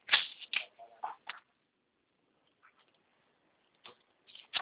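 Quiet keyboard typing: irregular bursts of soft key clicks, a pause of near silence in the middle, then a few more keystrokes toward the end. No one speaks.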